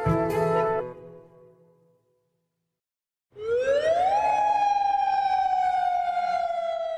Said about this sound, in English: Every day at 7 p.m., we hear the sound of the sirens. This is the same alarm that would be used in case of war. And it lasts for about 5 minutes.